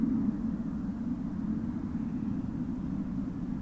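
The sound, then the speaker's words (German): A steady, low droning rumble of an airplane passing, holding an even loudness throughout with no voices. “Also ich höre Frösche, ich höre Flugzeug.”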